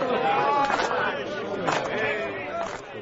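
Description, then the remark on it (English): A restless crowd murmurs steadily at a cricket match, a dense babble of many overlapping voices with no single speaker standing out, holding a fairly even loudness throughout. “The crowd are getting restive.”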